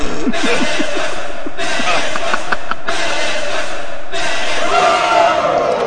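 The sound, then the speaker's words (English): A loud wrestling arena crowd in Las Vegas cheers wildly for the wrestler Spectre after his guillotine leg drop from the top of a barbed wire ladder, a dense, continuous roar of many voices with shouts and whoops rising and falling, sustained at high volume the whole time. “And listen to this Las Vegas crowd go crazy for the Spectre!”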